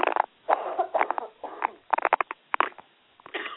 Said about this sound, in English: I'm sorry you're coughing